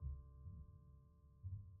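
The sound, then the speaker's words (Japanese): A mother's heartbeat: soft, muffled thumps, deep and low, come in slow pulses over a faint steady hum, with no voices present. “外の音は何にも聞こえない。ママの声と心音だけ。”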